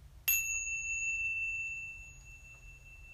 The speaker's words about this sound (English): And following the full length of the chime into stillness.